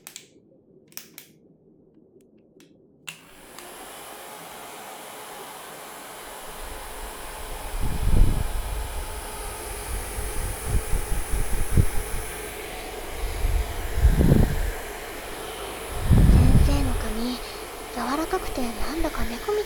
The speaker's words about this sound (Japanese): それでは、ドライヤーで髪を乾かしていきます。